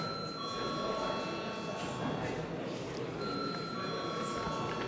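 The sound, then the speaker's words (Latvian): A parliamentary registration bell rings steadily and continuously for several seconds, calling deputies to register, its sustained tone sitting over a background of murmuring room noise and faint shuffling. “Līdz ar to visu darba kārtību izskatīt, lūdzu zvanu reģistrācijai.”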